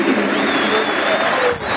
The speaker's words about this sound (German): Der Doppeltorschütze von den Zuschauern natürlich mit Applaus bedacht.